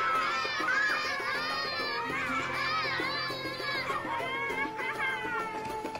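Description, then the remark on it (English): A crowd of young children playing in a street, their high-pitched shouts, chatter and squeals overlapping in a steady, lively din from start to finish. “As he and his wicked soldiers moved through the city streets, they came across a street full of young children playing.”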